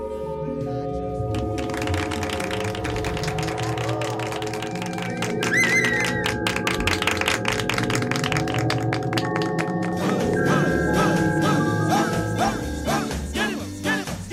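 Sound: applause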